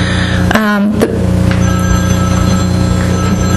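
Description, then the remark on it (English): A telephone rings loudly with a harsh electronic trill in a couple of short bursts, set against a steady humming background, with no talking over it. “You know where that phone's coming from?”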